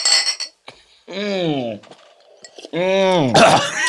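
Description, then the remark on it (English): Glasses of shots clink together in a toast to Donald Trump, a bright ringing touch at the start, followed by loud drawn-out voices calling out and a brief clattering rattle near the end. “Right, so let's raise a glass here.”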